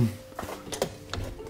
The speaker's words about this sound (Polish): O, ktoś puka.